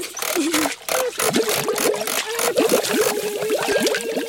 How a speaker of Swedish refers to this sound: Oj, så tungt. Och det skvalpar. Är det en hink med vatten? Nej, ingen hink.